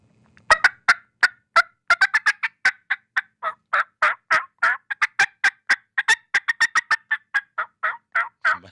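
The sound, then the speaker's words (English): A turkey hen's cutting call: a rapid, excited series of sharp, loud clucks, dozens of quick irregular notes running continuously with no talking. “And you don't hear that very often with turkey, but then you can do cutting, and here's cutting.”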